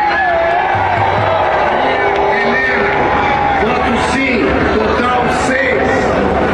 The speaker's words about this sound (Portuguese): Do outro lado, cada voto sim era aplaudido, como do deputado César Souza, do PSD de Santa Catarina.